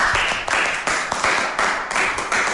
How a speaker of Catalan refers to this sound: Un aplaudiment.